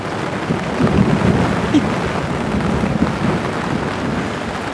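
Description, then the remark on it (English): A deep, steady rumble of thunder rolls on under a dense hiss of falling rain, fairly loud and continuous, with faint murmuring voices surfacing briefly in the background. “Thank you, God of Thunder. This is to you.”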